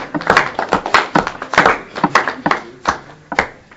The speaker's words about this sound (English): So we get some clap for that. Yes!